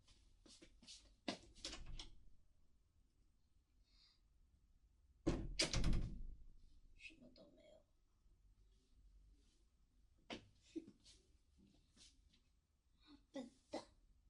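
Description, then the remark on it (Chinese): Sharp knocks on a door at about 8 o'clock come in scattered bursts, with a louder, heavier thump partway through and a few more light raps near the end, fairly quiet overall. “刚刚那个怎么会是敲门声吗？”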